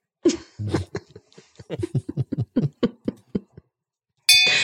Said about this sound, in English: That bell means it's time for Alfred's question of the day.